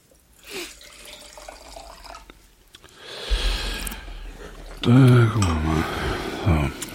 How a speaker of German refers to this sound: Oh, warte mal, vielleicht gerade mal Glas ausspülen hier.